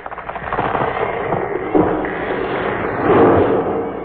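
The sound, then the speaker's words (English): A big tree crashes down with a dense rush of cracking, splintering and snapping, a sharp thud partway through, then a louder rumbling surge of breaking branches that fades out. No voices. “Your mother has knocked down the big tree.”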